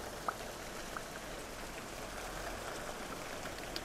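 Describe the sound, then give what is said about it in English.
Steady cold rain patters down in a dense, even hiss, falling sometimes heavily and sometimes lightly in larger and smaller drops, with a few louder individual drops plinking now and then against a surface. “Some bits of the rain are larger and some are smaller. And it falls heavily and sometimes it falls lightly.”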